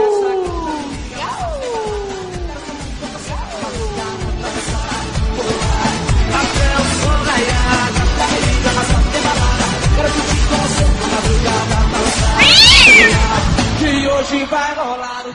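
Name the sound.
cat meowing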